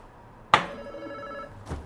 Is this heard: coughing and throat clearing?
no